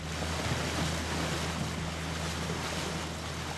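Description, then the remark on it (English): Dozens of one-person Moth sailboats race across the Columbia River at Cascade Locks during the Moth World Championships, heard as a steady, dense rush of wind and splashing water with a low, continuous hum underneath. No one speaks. “Out on the Columbia River, dozens of moth sailboats flutter across the water.”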